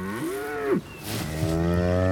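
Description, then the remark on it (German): A cow moos loudly early in the morning: one drawn-out bellow with a swooping pitch, then a second long, steady moo right after, with no voices present. “Und das ist eine Kuh.”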